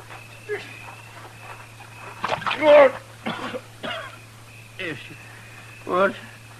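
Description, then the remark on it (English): A man sputters and coughs in several short, gasping bursts as water scooped from a rain barrel is thrown on him, with a steady low hum underneath. “Scoop some water out of that rain barrel there and throw it on him, huh?”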